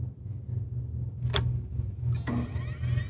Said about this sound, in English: then a mini Apple store from Stanford Shopping Center, then the iconic Fifth Avenue Apple store, and then the Infinite Loop store. And listen to this. You hear these footsteps?